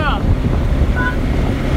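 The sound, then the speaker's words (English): Loud, steady roaring rumble of a car moving fast, with heavy wind buffeting the microphone throughout and a brief faint tonal sound partway through. “How fast can my this thing go? Fast.”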